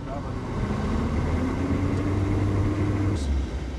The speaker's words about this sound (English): Outside, the woefully inadequate state of the checkpoint is obvious. Trucks, very big ones, are pouring through. There's hardly enough room for any of them to be pulled off for searches, and the police are without helmets or vests.